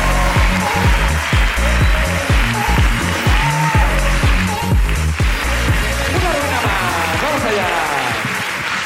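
An audience breaks into loud, sustained applause, a dense wash of clapping that holds steady for about nine seconds over a pulsing low backing.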